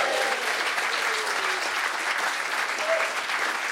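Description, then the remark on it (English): A crowd claps steadily throughout, dense and sustained applause filling the room at an even, fairly loud level without letting up. “What you are applauding there is a man's painful recovery from his own incompetence.”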